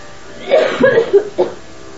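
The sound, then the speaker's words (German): A short fit of coughing, several rough bursts in quick succession with a final separate cough, fairly loud against quiet surroundings. “Ich habe Hustenbonbon. Noch schlimmer werden.”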